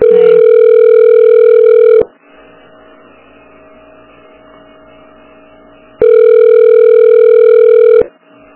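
A telephone ringback tone sounds twice, each steady two-second burst followed by a long pause with faint line hum, as the call keeps ringing with no answer.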